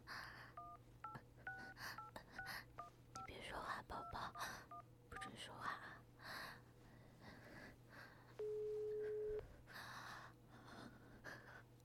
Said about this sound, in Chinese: 还给她老公打电话